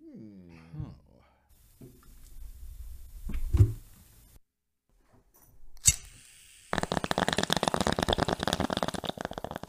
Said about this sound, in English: ASMR. That sounds like ASMR. I'm trying to give you guys some bong ASMR.